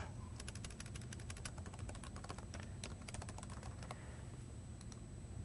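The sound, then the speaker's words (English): Rapid clicking of a computer keyboard as code is typed, in uneven bursts, fairly quiet, with a steady low hum underneath and a few scattered keystrokes near the end. “So by creating these snippets, I can do a lot less typing.”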